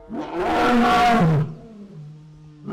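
A satisfied, just-fed lion at the Turpentine Creek big cat refuge near Eureka Springs, Carroll County, lets out a deep, powerful, loud roar, swelling for over a second before trailing into a lower rumbling grunt, with another roar starting at the end.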